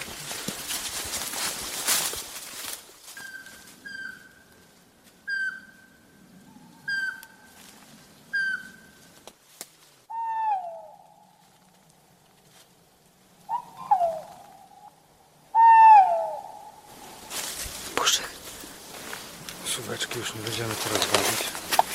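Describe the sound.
Two tawny owls, first a male then a female, call in a quiet night forest: a run of short, evenly spaced whistles, then several louder, sharper calls that drop in pitch. Faint rustling and murmuring voices frame the calls.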